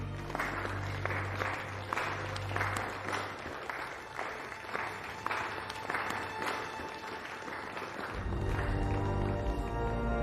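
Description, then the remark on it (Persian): A crowd applauds their queen steadily for several seconds, the clapping dense and rhythmic over a low background hum that swells louder near the end. “ملکتون رو تشویق کنید.”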